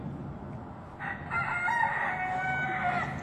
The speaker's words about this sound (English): Chickens!